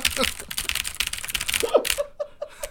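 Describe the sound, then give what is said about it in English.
Rapid typing on a computer keyboard, a dense flurry of crisp key clicks that slows into a few separate, spaced-out taps near the end. “I just picture your hands jamming on the keyboard really fast.”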